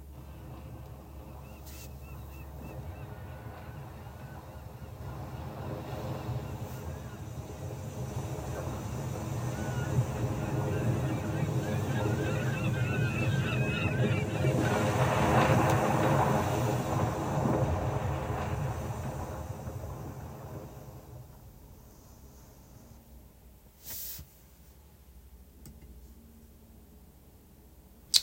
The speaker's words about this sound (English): What you just heard was the sound device actively calving off a glacier and crashing into the water below.